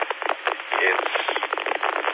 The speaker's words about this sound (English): But it also is closer by several thousand feet. It's closer to the atmospheric interference. It's just random enough. It has no pattern.